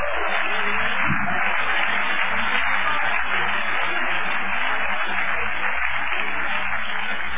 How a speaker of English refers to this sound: I wish somebody clap your hands right now.